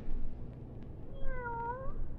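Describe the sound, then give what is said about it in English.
A single drawn-out cat meow, clear, rising then falling in pitch over a low steady background hum, with no one speaking. “Here, kitty, kitty, kitty, kitty, kitty. Oh, you listen, won't you?”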